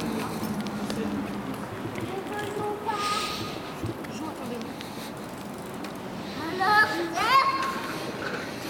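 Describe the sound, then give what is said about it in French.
Children playing outdoors in a park, some riding bikes, with scattered high voices and shouts over a busy background hum, and a couple of brighter, louder cries rising near the end. “Et des enfants qui jouent.”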